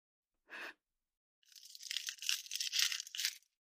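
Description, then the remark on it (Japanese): A single short rattle, then about two seconds of gritty ratcheting and metallic scraping as sturdy handcuffs that come with a key are locked on, with no voices. “だから、外せないってば。鍵は、ここ。それに手錠だけじゃないんだよ。”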